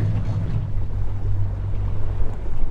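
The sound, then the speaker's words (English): A boat's motor hums steadily as the boat lands on a beach by the tundra, with wind and water rushing around it, a continuous low drone with no voices. “lands the boat and we walk around a little bit on the tundra.”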